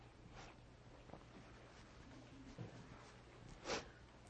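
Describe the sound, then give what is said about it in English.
A couple of short nasal sniffles, a faint one early and a sharper, louder one near the end, over a quiet, steady background hum with no talking. “Excuse me, I had the sniffles this morning.”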